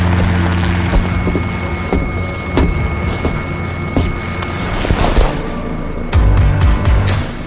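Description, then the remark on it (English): A loud, steady engine of a chartered helicopter drones with a whining hum, while the rotor adds repeated thumping pulses roughly once a second, with no one talking, as it flies toward Catalina Island. “Did you get a helicopter?”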